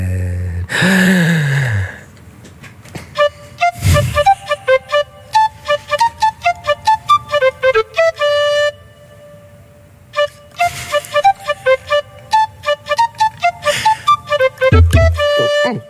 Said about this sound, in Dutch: Ik zal beginnen misschien met spelen. Ik zal de eerste doen, hè, op de blokfluit.